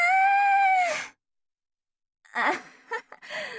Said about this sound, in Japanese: あ思わず叫んじゃった。